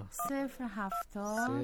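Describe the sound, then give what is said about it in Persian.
A voice hums a quick run of steady beeping notes, about seven in a row at shifting pitches, imitating the tones of a phone number being punched into a keypad to call a father, fairly loud. “خب دیگهش نمیخوای بگی، خودم یاد دارم. خدا کنه تلفنش روی سکوت نباشه.”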